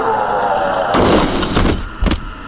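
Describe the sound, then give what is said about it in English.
A lorry crashes into someone: a sudden loud impact with shattering, breaking noises, followed by rattling debris and a second sharp crunch shortly after. “Oh, the human appears to have hit him with a... what do you call those noisy things? A lorry.”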